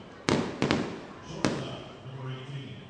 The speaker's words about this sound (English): A few fireworks being shot off post-anthem. They're going to keep going, too.